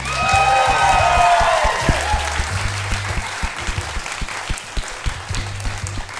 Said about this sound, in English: Would you please give a massive round of applause to our musician / Foley artist tonight